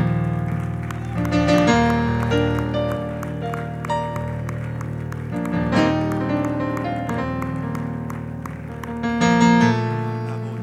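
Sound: audience clapping hands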